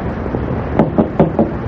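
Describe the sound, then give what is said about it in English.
Four evenly spaced knocks on a door, moderately loud, rapping in a quick steady rhythm over a faint rumbling background hum. “there's someone there. Then open the door.”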